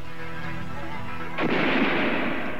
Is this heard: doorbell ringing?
no